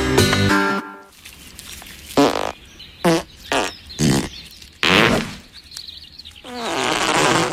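A string of farts: a long, buzzy, tonal one opens, then several short rasping bursts of varying pitch follow, ending with a longer, breathy, hissing blast. No one speaks.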